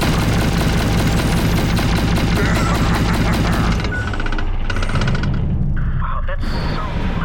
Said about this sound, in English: Is that loud for anyone else? Yeah, they're massive guns. Yeah, it's pretty loud.